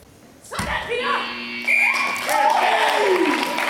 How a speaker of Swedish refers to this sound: Där gick slutsignalen. Inrätt spännande på slutet kanske. Men en 8-7 vinst för FIF Malmö mot holländska Hercules.